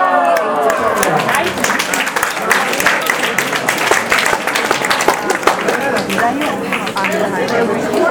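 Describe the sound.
An audience breaks into sustained applause, a dense crackle of many hands clapping steadily for several seconds, with scattered voices and cheers mixed into the noise.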